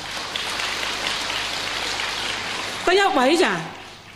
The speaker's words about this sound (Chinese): 给点掌声这位朋友。